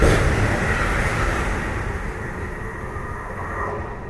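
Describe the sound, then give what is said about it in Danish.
A regional train runs along the tracks on the stretch between Lem and Ringkøbing, with a steady, continuous rumble and broad rushing noise. It stays fairly loud and even throughout, with no voices. “Det er den strækning, vi også kørte sammen i radioudsendelsen.”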